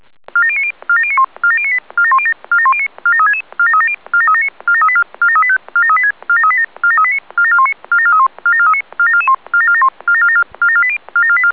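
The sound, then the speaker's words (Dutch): A rapid, repeating sequence of electronic paging tones from a fire brigade platoon alarm for a very large fire in Driebergen, short beeping bursts stepping between pitches in a steady rhythm for the whole stretch, with no voices. “Dit is pelotons alarm, voor zeer grote brand in Driebergen.”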